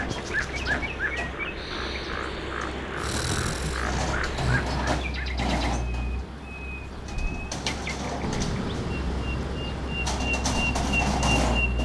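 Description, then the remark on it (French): Thousands of birds leave their nests in a forest as machines tear out the trees, chirping and calling in a dense, overlapping chorus, continuous and fairly loud over a steady rumbling, rushing background, with no one speaking. “Les oiseaux par milliers quittent leur nid.”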